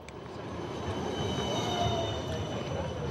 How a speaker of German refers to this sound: Bern, Haltestelle Montbijou mit dem 9er Tram in Richtung Zentrum.